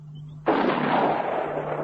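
gunshot

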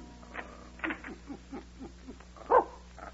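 small dog whimpering

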